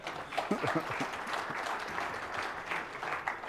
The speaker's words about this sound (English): Do I get a little bit of a round of applause for that one?